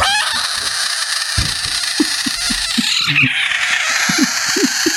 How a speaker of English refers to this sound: found a video of someone with a screaming frog